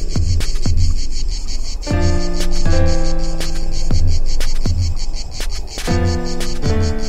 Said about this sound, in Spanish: El can de la chicharra.